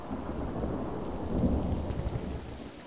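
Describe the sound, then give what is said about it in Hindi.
Heavy rain pours down steadily beside a pond at a gurdwara, a dense, continuous hiss with a deep low rumble underneath, swelling slightly midway, with no voices. “बारिश तेज हो रही थी पर मैं वहीं बैठा रहा”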